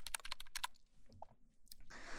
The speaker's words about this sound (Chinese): 就是电脑那个小键盘，上面有数字的那个，那几排的那个那种，长得特别可爱。但它是这种普通的按键，不是机械键盘那种。